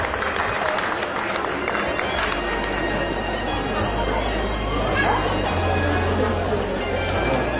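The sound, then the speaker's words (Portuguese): Sustained audience applause at a ceremony awarding honorary Formosa citizen titles and merit commendations, a dense, even wash of clapping that holds steady for several seconds, mixed with a low murmur of crowd voices and a faint low hum underneath. “Uma salva de palmas.”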